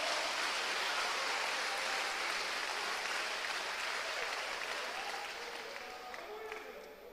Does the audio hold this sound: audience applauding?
yes